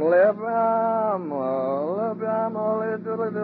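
animal, goats bleating

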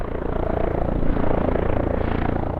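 vehicle, firefighting helicopter flying

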